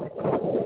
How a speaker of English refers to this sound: The wind, you can hear the wind in the background.